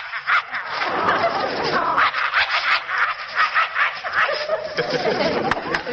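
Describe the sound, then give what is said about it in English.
A man imitates a vicious dog, snarling and growling in rough, rapid bursts for several seconds, fairly loud on a muffled, old-sounding recording. “A suspicious dog like this. Or a vicious dog like this.”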